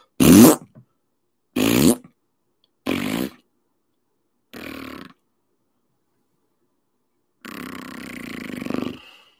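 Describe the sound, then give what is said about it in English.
A run of five fart noises with no talking: four short blasts growing steadily quieter, then a pause and a final longer, drawn-out raspy one. “But now, all we got since that point is a series of descending fart noises.”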